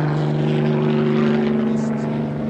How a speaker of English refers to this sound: One helicopter now is in real low. Military police helicopter.